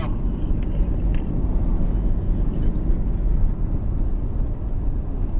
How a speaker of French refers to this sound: Écoutez un peu le bruit de la voiture, le silence.